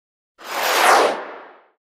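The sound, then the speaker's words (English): A single airy whoosh of a paper plane, folded from a piece of paper and being flown, gliding through the air, swelling quickly to a soft peak and then trailing away over about a second, with no voices. “Fly the plane.”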